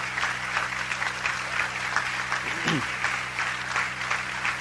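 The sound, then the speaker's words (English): An audience applauds and cheers for the people who work at the museum, a dense, steady wash of clapping that runs the whole time, with one brief shout rising and falling over it midway. “I want you to give a big cheer up for these.”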